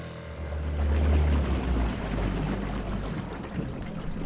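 A small boat being paddled through the waterways off Bethel Island in the Delta, on the fringes of the Bay Area, with a steady wash of splashing and lapping over a deep, continuous low rumble. No one speaks.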